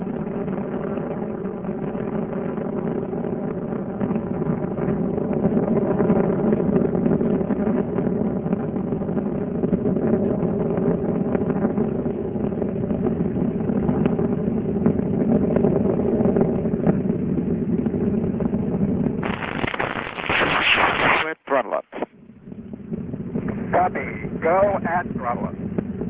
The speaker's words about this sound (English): Discovery's three main engines are beginning to throttle back to 74% of rated thrust as Discovery passes through maximum aerodynamic pressure.